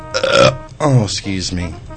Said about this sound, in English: I'm going to burp. Excuse me.